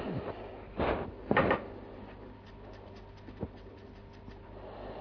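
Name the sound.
chair creaking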